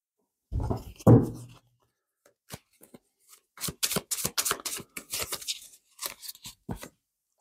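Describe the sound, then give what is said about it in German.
Shuffling of a deck of tarot cards: a couple of heavier rustling handfuls, a short pause, then a quick run of crisp snaps and flicks as the tarot cards are riffled and drawn. No one speaks. “Ich halte das für richtig, aber schauen wir mal die Karten. Diese zwei Karten fallen raus.”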